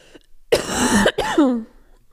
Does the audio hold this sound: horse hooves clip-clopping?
no